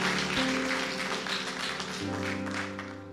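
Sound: audience clapping hands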